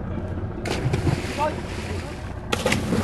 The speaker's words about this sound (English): A few hours later, in a fast boat, we're still on the lake, so swollen by the monsoon, it's impossible to see land in any direction. The boat slows as we approach a fisherman in a small wooden boat, his son and daughter helping haul in the catch.